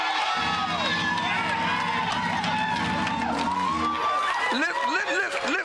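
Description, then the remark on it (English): A large audience shouts and cheers together, a dense, sustained roar of many voices with rising whoops and cries, loud and continuous throughout. “The reason we're shouting is because of what God says.”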